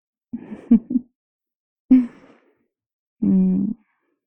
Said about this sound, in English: I think I'm slowly getting to the point where I don't want to talk anymore. Because I keep yawning.